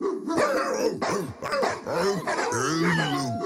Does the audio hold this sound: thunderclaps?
no